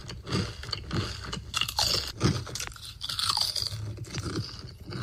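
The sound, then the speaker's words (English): Loud crunching as someone chews crisp food, with repeated bites and grinding in an uneven but steady rhythm for several seconds, and no voices. “Are you bothered by the sound of your own crunching noises in your own mouth?”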